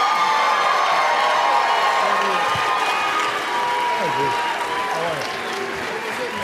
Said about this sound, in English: It's a warm round of applause, please, as we invite up Drew Bledsoe, Teddy Bruschi, Kevin Faulk, Ty Law.